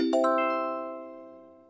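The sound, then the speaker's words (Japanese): A clear electronic chime, used as the answer cue in a language-lesson speaking drill, rings out in two quick stacked tones, then rings on and slowly fades over about a second and a half, with no voices present. “チャイムの後に、続けてうくむにで回答しましょう。”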